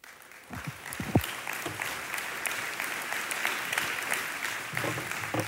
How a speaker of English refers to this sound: They don't even know me, and they're already clapping.